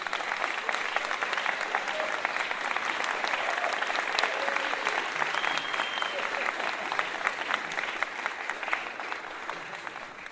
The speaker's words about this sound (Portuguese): que está aqui, uma salva de palmas, venha para cá.